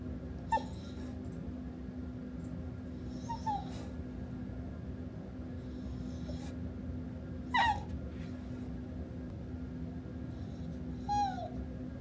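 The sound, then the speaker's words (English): A female dog, never trained and kept at a workplace about 50 feet from an office door, whines in short, high-pitched, falling cries while wanting to get out, about four of them spaced several seconds apart, over a steady low background hum with no one talking. “She's the sweetest dog in the world. I like her, but she whines.”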